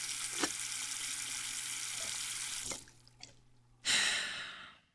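running tap water

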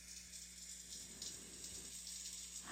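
water pouring down

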